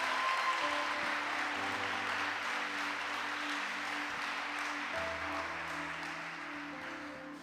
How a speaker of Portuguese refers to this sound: Vamos aplaudir a palavra de Deus bem forte. Bem forte.